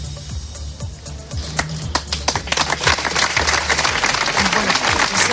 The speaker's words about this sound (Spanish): Era el aplauso con el que terminaba ese minuto de silencio.